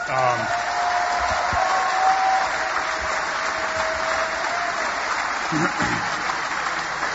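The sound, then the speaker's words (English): A large audience claps steadily for about seven seconds, a dense, even wash of applause that holds its loudness throughout, with faint cheering mixed in, applauding people honored on stage at a Cardinals baseball event. “I just want to thank again and get a round of applause for all these amazing people.”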